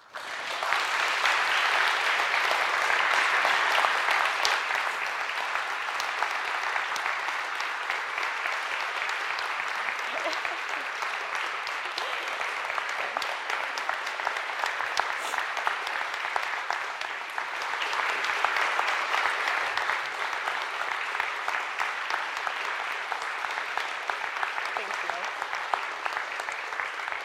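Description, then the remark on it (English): An audience applauds steadily for almost half a minute, a dense, even wash of many hands clapping that swells slightly near the start and again toward the end. “I think we're doing something more formal next weekend, so you can stand and applaud again.”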